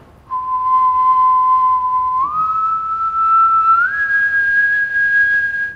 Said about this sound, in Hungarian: Hát nem színuszos, nem jó a fütyülőm, mert vannak benne harmonikusok, ugye, ez azért látszott. Hát de én csak így tudok fütyülni.